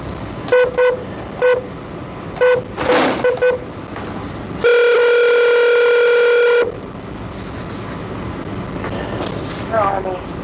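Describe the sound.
A phone call placed during an Arizona Board of Executive Clemency parole hearing rings out over a speaker: a quick run of short electronic beeps, then a single steady two-second ring tone, thin and tinny, over faint room noise.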